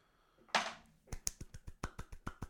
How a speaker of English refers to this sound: That's me clapping, not beating off, I swear.